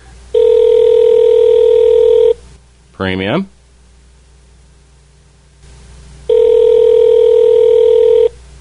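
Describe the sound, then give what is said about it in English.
A phone line rings on the other end: two long, steady ringback tones about four seconds apart, fairly loud and clear, with a brief spoken word in the gap between them. “we're going to give him a call right now, live on Vinyl Cobwebs”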